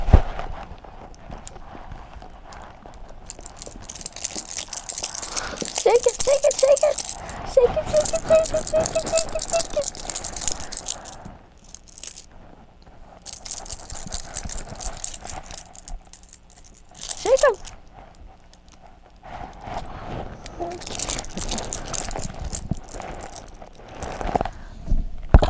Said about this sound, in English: Shake the key right off. Oh, it's the key. Okay, you shake the spoons, I'll shake the keys. Shake it! There's the keys.